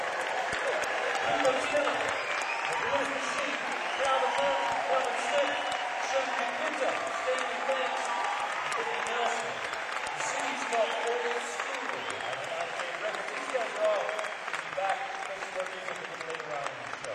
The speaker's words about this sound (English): Hey, give me a little more of that applause, would you? Just clap on the hand.